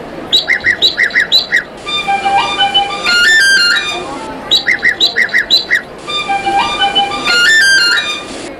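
An Irish blackbird's fluting song phrase gives way to a lively jig, the calavel jig, played on a tin whistle, and the pairing of birdsong then whistle tune repeats twice, clear with no talking.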